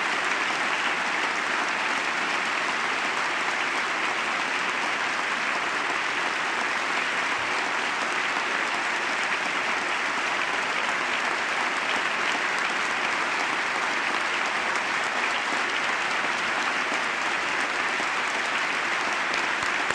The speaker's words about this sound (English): Sustained applause here. There are members of the Armed Services veterans from the wars in Iraq and, I believe, Afghanistan in the gallery along with the First Lady tonight in uniform, and they're getting the applause, a standing ovation